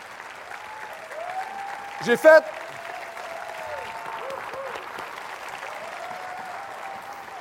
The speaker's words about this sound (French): C'est pas ma prédication qui est longue, c'est vos applaudissements.